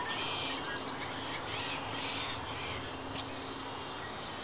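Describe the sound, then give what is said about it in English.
Outdoor ambience of a desert wetland in the mid-Columbia region, with reeds and ponds among sagebrush-studded hills. A steady background wash and scattered bird calls, including crow-like caws and quacking ducks, moderately quiet and continuous throughout, with no one speaking. “We're amid sagebrush-studded hills that plunge down into reeds and ponds.”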